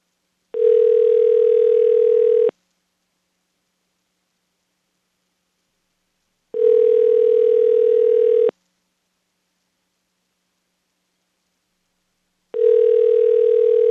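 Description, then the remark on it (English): A telephone ringback tone on an international call to a phone number in Japan repeats three times, each steady two-second ring followed by about four seconds of silence, with a faint hiss riding on each ring and no voices. “Are you calling a real Japanese phone number?”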